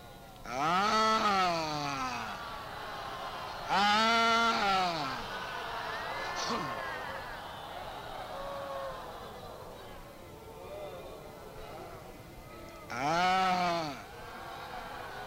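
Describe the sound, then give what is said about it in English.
Three loud, quavering goat bleats ring out: two in quick succession near the start and a final one after a long stretch of quieter, murmuring sounds. “because he'll go hunt up all the other goats. And in goat language, he'll tell them, so there's a bunch of enemies over there.”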